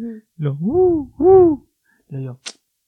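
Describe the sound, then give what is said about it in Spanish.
A person vocally imitates an owl's hoot heard in the jungle, with a few rising, wavering hoo calls of varying length, loud, followed by a short breathy hiss at the end. “Entonces, pues ya nos adentramos bastante, no sé si caminamos algunos metros, yo tal vez un kilómetro hacia adentro de la selva, y de repente escuchamos que se escucha así como que y nosotros, ay cabrón, y le dices, ¿un búho?”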